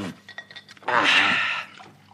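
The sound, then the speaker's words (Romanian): A short burst of water pours steadily for under a second, splashing into a glass or cup, with a few light clinks of glassware just before it. “Eu de apă sunt sătul, mulțumesc, nu mai turna.”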